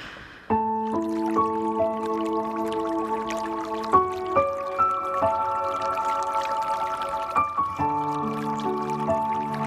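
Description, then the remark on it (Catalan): Steady flowing river water, continuous, running beneath soft sustained music chords that shift every few seconds; no voices. “Una passeges pel bosc, doncs aquells sons dels ocells, del riu, doncs ajuden molt més a que arribi tota la part emocional i que t'ho creguis més.”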